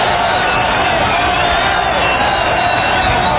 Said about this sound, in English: This is something, though. This absolutely is. I mean, I've never seen anything like it outside of a World Series. I haven't either, and we're in an enemy ballpark, and they're standing cheering Schmidt, the pitcher.